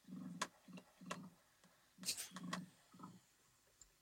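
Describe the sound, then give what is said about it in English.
An emu's low, purring drumming call comes in a series of short, throbbing pulses with brief pauses between them, with a few faint clicks and rustles mixed in. “Was that coming out of their mouth? It sounded like purring.”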